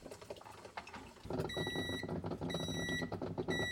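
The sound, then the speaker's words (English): A coffee machine gives three evenly spaced, high electronic beeps, each about half a second long, signalling that brewing is finishing, over the steady whir and gurgle of the machine as it still pours the last bits of coffee into the jug. “Now it has made the beep that's indicates it's finishing.”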